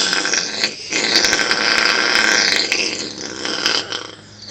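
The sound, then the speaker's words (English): A long, loud fart from a man on his front porch, fuelled by Taco Bell, rips for several seconds: a raspy sustained blast with a brief break early on and a sputtering tail, with no talking. “Wow, now that was a fart.”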